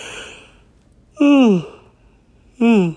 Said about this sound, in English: And from that yawn, maybe I should have done it another day.